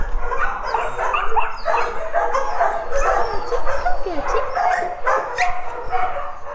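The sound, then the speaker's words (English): A loud, continuous chorus of many homeless dogs in kennels, excited by visitors, barking, yipping and whining at once, overlapping with no pauses, echoing and dense. “We're just going to go up through the kennels, which will probably be pretty deafening, and this is where all our homeless dogs are hopefully awaiting a new home.”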